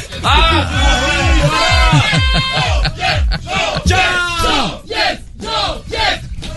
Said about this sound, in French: Arrêtez, arrêtez de faire du bruit. Arrêtez, c'est relou, arrêtez. Nous allons disperser ce public, hein. Arrêtez maintenant.